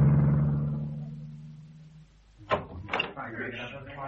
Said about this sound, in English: Yeah, where does all this traffic come from? I can't see us getting in until 5:15 at this rate.